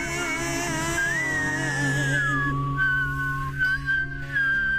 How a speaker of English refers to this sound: I don't love songs with whistling in it. That's because neither one of us can whistle. That's correct. You cannot whistle.